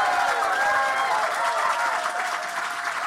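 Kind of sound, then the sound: crowd, standing ovation applause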